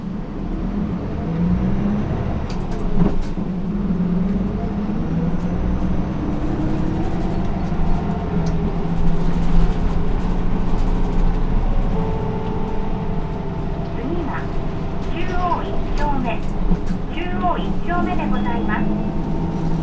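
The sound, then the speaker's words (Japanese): Inside a bus arriving at the Chuo 1-chome stop, a steady, deep engine rumble and road noise drone continuously, with brief faint chirps and muffled voice-like sounds rising in the latter part. “バスが止まるまでそのままでお待ちください。”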